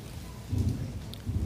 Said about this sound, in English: Is that thunder that I hear? You said it's in the rain. We said it's in the rain.